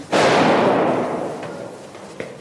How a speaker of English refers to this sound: This used to be a wedding hall. Now it's the front line position. Apart from the sound of gunfire, it's eerily quiet in this former ballroom.